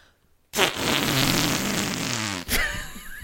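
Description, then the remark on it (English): After a brief silence, a loud, sustained fart noise blares for about two seconds, buzzy and raspy, then cuts off into a quieter, fluttering tail. “A fart noise isn't a boring also, noise, though.”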